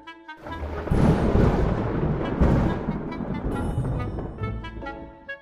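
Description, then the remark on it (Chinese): A loud rumble of thunder rolls in after a brief quiet start, peaking with a heavy crack and then continuing as a long, deep roll that slowly trails off. No one speaks. “妈妈，打雷好可怕，我害怕。”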